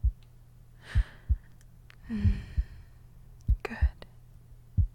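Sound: heartbeat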